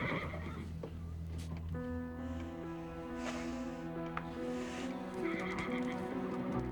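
A horse in a stable lets out a long, loud, quavering whinny while being stroked, preceded by a low rumbling nicker, with faint shuffling of hooves.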